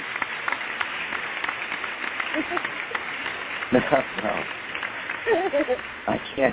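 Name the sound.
applause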